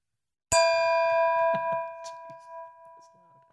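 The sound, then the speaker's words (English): A single bright bell ding strikes sharply and rings on with a long, shimmering decay, while faint voices murmur quietly underneath. “All right, ding the damn bell, would you?”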